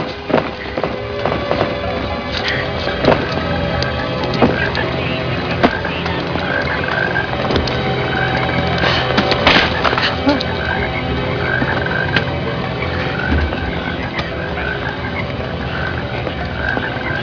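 A dense chorus of toads croaking continuously, many calls overlapping into a loud, rattling wall of sound with occasional sharper clicks and thumps.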